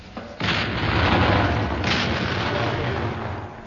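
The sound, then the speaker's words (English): The 74th Medium Regiment RA firing over open sights: a sudden heavy boom erupts into a sustained, rumbling roar, with a second blast surging about a second and a half later. The barrage stays loud throughout, with no voices. “And there you hear the 74th Medium Regiment RA firing over open sights smack into the pudding itself.”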